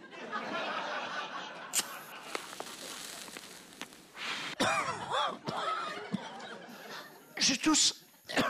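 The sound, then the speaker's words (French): Commentator Chantal Hébert coughs several times during a live broadcast, with sharp bursts spread out and then a tight cluster of harsh coughs near the end, amid breathy throat-clearing sounds. “Je tousse encore.”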